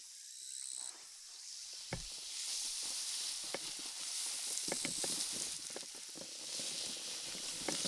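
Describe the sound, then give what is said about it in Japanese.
A steady, bright fizzing hiss of carbonated liquid poured onto hair during a rinse and massage, dotted with tiny irregular crackles and pops from bursting bubbles, continuing alone without speech. “シュワシュワですか。”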